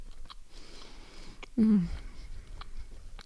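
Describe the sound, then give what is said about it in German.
Quiet mouth noises of someone chewing food, with a few sharp, irregular lip smacks and a brief low throaty sound partway through; no one speaks. “Während ich kaue. und schmatze.”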